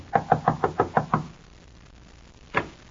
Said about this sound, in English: Knock on the door